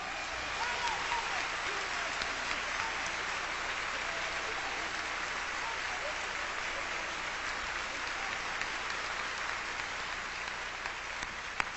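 A large concert audience applauds the orchestra steadily, a dense, even wash of clapping that holds at a constant level for the whole stretch without fading.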